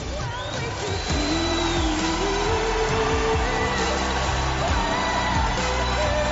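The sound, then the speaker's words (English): A large Eurovision crowd in Vienna roars and cheers continuously after Australia's performance ends, a dense wall of voices with scattered whoops and whistles rising above it, loud and sustained throughout. “was followed by an explosion of cheers from the Vienna crowd.”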